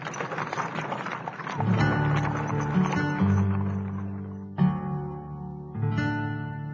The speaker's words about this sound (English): Gee up there, horse.